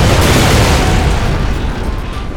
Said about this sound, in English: The way the explosions came thundering from the bowels of the bunker, Manning had to figure some fuel depot or ammo housing was touched off by a gush of fire blown around by the incendiary grenades.